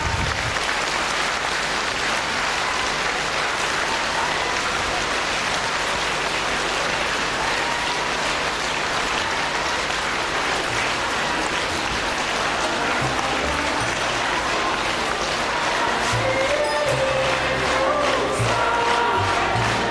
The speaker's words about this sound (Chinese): 现在让我们用最热烈的掌声恭请尊敬的卢军宏台长。